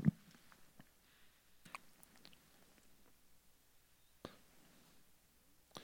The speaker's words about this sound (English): Still hear some pages turning.